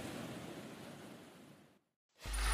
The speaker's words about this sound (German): Das schlägt einmal eine Welle selbst.